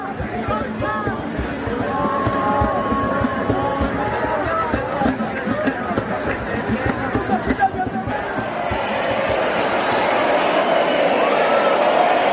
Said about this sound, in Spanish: Anoche cientos de españoles tomaron las calles para festejar el fin del toque de queda en la inmensa mayoría del país. Así se escuchaban las calles de ciudades como Barcelona o Salamanca.